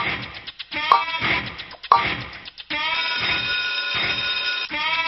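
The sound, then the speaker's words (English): A quiz countdown clock cue with sharp ticks about a second apart over a choppy electronic tone, then a steady, loud buzzing alarm that holds until the end. Nobody speaks. “Another 3 seconds on that clock and go.”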